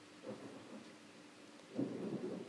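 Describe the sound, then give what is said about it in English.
Thunder rumbles low beneath a steady hiss of falling rain during a storm with lightning, with a brief early roll and then a louder, swelling rumble building toward the end. No one speaks. “That's thunder. Oh, and there's some lightning as well.”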